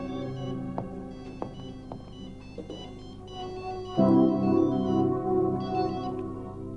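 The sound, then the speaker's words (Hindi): A melodic phone ringtone plays on its own, a looping electronic tune of sustained tones that swells noticeably louder and fuller about halfway through. “फिर फोन किया? मैंने कहा था ना कि फोन मत करना मुझे।”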